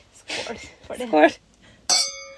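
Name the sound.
glasses clinking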